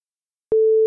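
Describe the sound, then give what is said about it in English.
A single steady electronic beep tone marking a gap in a listening quiz, clear and fairly loud, begins abruptly after a moment of silence and holds at one pitch for about half a second, with no voices present. “Fill in the three gaps indicated by the tones.”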